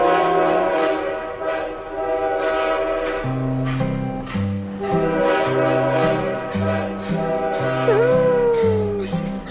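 A steam train rumbles along with a steady, rhythmic low chugging while a loud, sustained multi-tone horn blares over it throughout, prominent.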